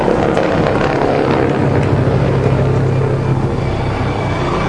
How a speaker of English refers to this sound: Well, in case you're wondering what the sound is, that's the Dorset Police helicopter with sirens blazing, doing a buzz of Sixpenny Handley.